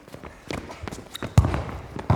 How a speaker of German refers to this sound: Welche Sportart ist das? Laufen und dribbeln.